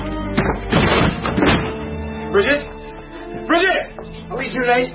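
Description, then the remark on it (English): A door is forced open with a burst of heavy thuds and a splintering crash near the start, followed by people talking and exclaiming. “open this door! Stand back”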